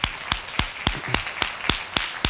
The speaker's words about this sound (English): Go ahead and clap. That's all right.